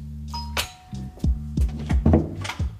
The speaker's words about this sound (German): Ich glaube, es ist direkt hier im Erdgeschoss. So, hier Klingel, Klingel. Da ist die Klingel.